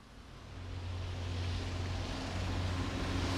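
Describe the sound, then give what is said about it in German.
A steady rumble of travelling-circus wagons and trucks rolling in, with a low engine drone and broad road noise that swells over the first second and then holds, loud, with no voices. “Lauter Zirkuswagen kommen da angerollt. Und Lastwagen.”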